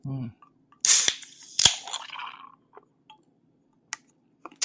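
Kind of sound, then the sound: food or drink, beer can cracked open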